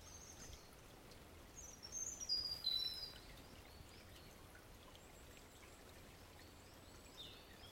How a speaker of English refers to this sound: We've got the typical babbling brook.